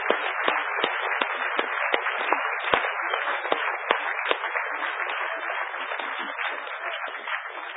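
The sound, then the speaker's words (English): An audience bursts into a round of applause for the hackerspace groups Hack DC, Hack Toronto, the Hactory, C4, Metalab and Noisebridge for running a village, dense and steady for several seconds, with many overlapping hand claps forming a continuous crackling wash and a few sharper claps standing out. “Could you give these guys a huge round of applause for doing a great, great village?”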